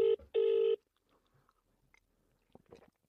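A telephone rings with two quick electronic tone bursts, loud, followed by near silence with a few faint clicks and rustles.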